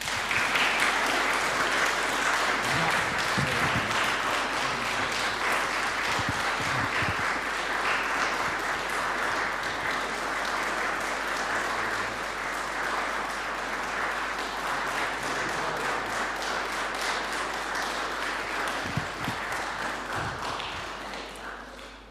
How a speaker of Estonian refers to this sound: Aplaus!